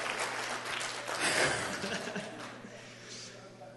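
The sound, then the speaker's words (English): A church audience applauds a youth pastor's translator, a steady wash of clapping from many hands that swells briefly near the middle, with a faint low hum and scattered chuckles underneath. “So you guys give her, come on, give her applause.”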